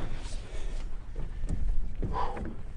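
During a Bethel Search and Rescue river-dragging operation on the river near Bethel, a heavy sandbag, the fifth that hour, is hauled onto a boat, with a couple of dull thumps and scraping knocks against the hull over steady low outdoor rumble and wind.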